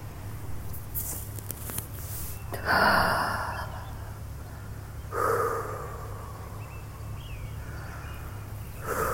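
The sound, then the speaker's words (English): Someone sitting on an outdoor bench takes a sharp inhale, then a few seconds later breathes out a soft, breathy exhale of smoke, over a steady low outdoor rumble. “I think 2 hits is enough right now.”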